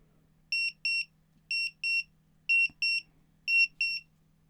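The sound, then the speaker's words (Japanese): A countdown timer alarm with a user-set time, run as a five-second test, beeps in paired bursts when time is up, four double-beeps in a steady rhythm, bright and electronic, clear over a faint low hum with no talking. “こんな感じで時間になったら音が鳴るタイマーです。”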